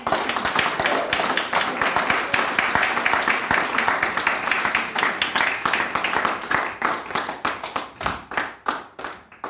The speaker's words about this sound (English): If you believe it, clap your hands to Jesus.